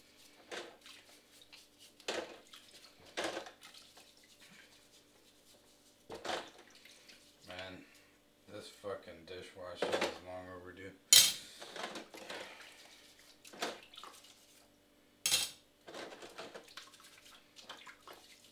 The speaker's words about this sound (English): I always wash my dishes really slowly. And it's, guess it's just kind of my demeanor when I do this. It's too boring to do quickly.